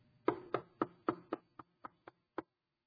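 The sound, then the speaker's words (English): About nine sharp knocks on a door in a quick, steady series, starting loud and gradually getting softer, with a short pause before the final knock. No one speaks. “Suppose we hear that on that door.”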